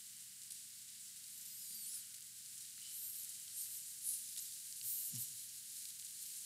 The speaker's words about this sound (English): Let's turn in our Bibles to 1 Samuel chapter 18. 1 Samuel chapter 18, guys. Still got some pages turning.